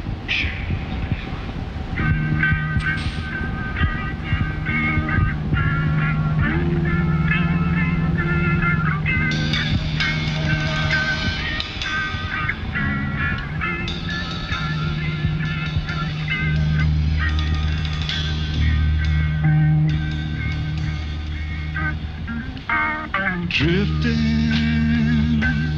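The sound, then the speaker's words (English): Sea sounds: a steady run of loud, overlapping honking and squawking tones, like gull cries and horn blasts, with low droning notes underneath that rise and fall throughout. “Let me do some sea sounds.”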